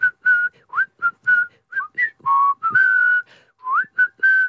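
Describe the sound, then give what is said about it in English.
A small cracker toy whistle is blown in a quick series of short, shrill notes at slightly different pitches, some sliding up, fairly loud with no talking. “I didn't think there were actually different tones of whistle.”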